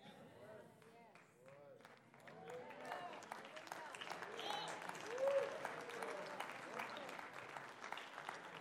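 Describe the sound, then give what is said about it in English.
A church audience claps their hands during a morning service: scattered claps at first, swelling into steady, dense applause that grows louder and continues, with voices calling and cheering over it. “Clap your hands a little longer.”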